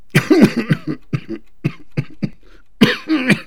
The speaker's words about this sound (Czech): To nevadí, dědo, tak víš co? Místo každého sprostého slova zakašlej, jo?